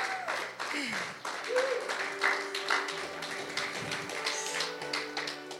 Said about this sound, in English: People are clapping and they're cheering because they made that same decision at one point. And they know that it was the best decision that they ever made.